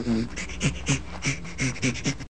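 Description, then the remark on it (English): Chimpanzee panting laughter: a quick run of breathy, rhythmic in-and-out pants, fairly loud, with raspy huffs and no clear voiced calls, ending abruptly. “This particular recording has a panting chimpanzee laughter.”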